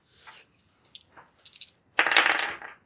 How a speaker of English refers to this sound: Roll me three dice.